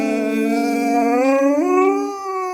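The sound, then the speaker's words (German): A dog named Rocky, singing along, lets out one long, unbroken howl, holding a steady tone before sliding upward in pitch partway through, loud and clear with no voices alongside it. “Oh, das war jetzt so ein Piepser von dir.”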